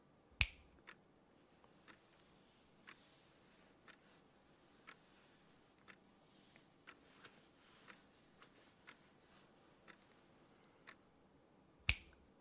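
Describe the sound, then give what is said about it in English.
A sharp, crisp finger snap rings out as a trance cue, then a long stretch of faint, evenly spaced soft clicks, and a second loud snap closes it. There is no talking. “When I count down and snap my fingers, you will ignore any touch you receive until I snap my fingers again.”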